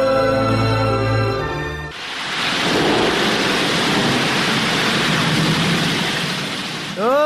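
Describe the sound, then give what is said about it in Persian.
After a short tonal musical opening, a loud, steady roar of heavy rain and rushing floodwater with rumbling thunder takes over, and a voice briefly cuts in at the very end. “بخی که سیل آمد.”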